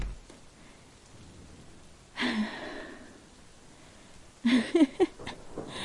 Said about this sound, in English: Quick! Oh my god, it's pouring!